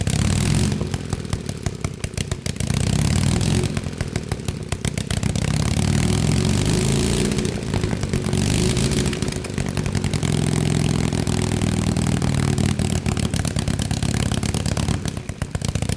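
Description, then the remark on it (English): A loud, raw race engine with no exhaust pipes and open cylinder ports roars continuously, harsh and crackling with no muffling, its rough pulsing bark rising and falling slightly as it runs for the whole stretch. “They're really unique because there's no exhaust pipes on them, so the ports into the cylinder are open, and flames actually shoot out when it runs.”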